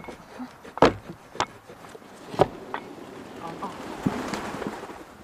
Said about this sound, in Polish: Zamykamy stajnię, żeby nie było przeciągu, bo tam drugie te drzwi też są otwarte, więc musi konikom być ciepło.